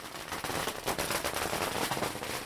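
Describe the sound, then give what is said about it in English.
A rapid, continuous crackle of firecrackers bursting in dense succession, loud, with sharp pops overlapping throughout and no talking. The firecrackers are set off at a wedding in China as the couple make their way to a roast duck restaurant. “And amid a hail of firecrackers, the happy couple make their way to a roast duck restaurant, where their celebration will be held.”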